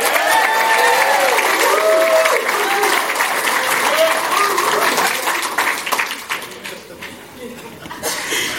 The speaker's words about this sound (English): I'm just going to hope you get that same applause.